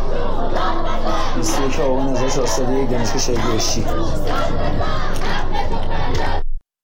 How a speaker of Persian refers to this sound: در دانشگاه بهشتی گروهی از دانشجویان شعار دانشجو داد بزن حق تو فریاد بزن سر دادند.